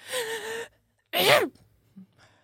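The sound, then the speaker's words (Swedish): A voice imitates a stifled, held-in sneeze: a strained, pinched vocal build-up followed by a short, compressed burst of breath, fairly loud, then quiet. “Hålla in en nysning.”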